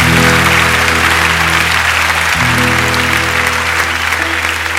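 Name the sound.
audience applauding loudly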